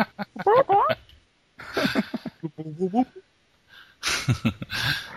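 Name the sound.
chicken clucking sound effect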